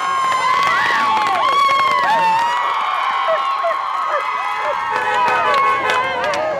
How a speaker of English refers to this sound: And the crowd outside the courthouse erupted in applause and cheers.